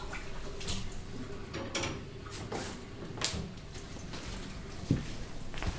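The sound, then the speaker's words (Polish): Water runs steadily from a tap into a glass with a soft, continuous hiss, broken by a few light knocks and clinks, fairly quiet, with no one speaking. “Przyniosę ci szklankę wody.”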